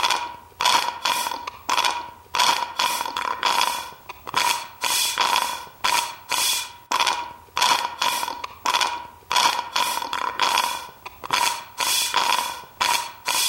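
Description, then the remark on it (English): Wet slurping sounds chopped into a steady looping drum beat, each sharp suck hitting in a repeating rhythm, roughly two or three per second, with no one talking. “Maybe after we record this, I'll put it together and we can have a little drum beat right here of your slurping.”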